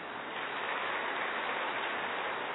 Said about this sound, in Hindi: पहले तो सभी को इस शिव जयंती की बहुत बहुत हार्दिक बधाइयां हो। बाबा का भी जन्म, साथ साथ हम सब का भी जन्म, तो अपने जन्मदिन की भी ताली बजा लें।